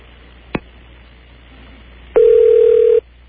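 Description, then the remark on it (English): A brief click, then a single loud, steady ringback tone on a phone line while calling MCI customer service, a low-to-mid pitched hum lasting under a second before cutting off. No one speaks. “That's a ring.”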